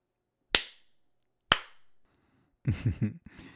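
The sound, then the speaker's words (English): Two sharp, loud hand slaps on a woman's bare buttocks as she is on her hands and knees, about a second apart, each with a quick ringing decay, followed by a brief vocal sound from a person. “A slap in the ass is an excellent motivator, isn't it, baby?”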